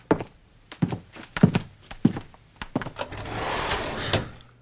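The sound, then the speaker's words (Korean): Several sharp, hollow thuds strike in an uneven rhythm as a teacher bangs on a classroom blackboard, followed by a brief rustling wash of noise; fairly loud, no voices. “칠판을 쾅쾅 두들기며 선생이 소리쳤다.”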